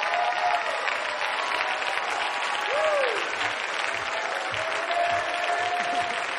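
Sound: audience clapping and whistling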